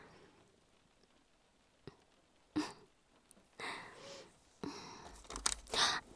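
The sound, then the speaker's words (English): Rustling and crinkling of papers and textbooks being shuffled and moved off a bed, with several sharp crisp bursts and soft thumps spread across a few seconds, and no talking. “Ow. I just got a paper cut, I think.”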